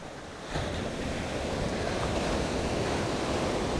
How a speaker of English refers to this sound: Listen to those waves, wow.